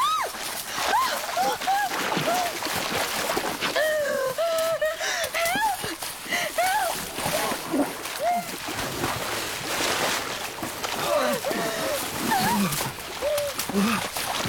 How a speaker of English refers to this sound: Be careful, the river is very high today. Strong currents.